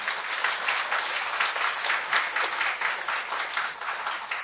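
An audience applauds steadily to welcome a speaker to a lecture, a dense wash of many hands clapping at once, sustained and fairly loud for several seconds with no one speaking.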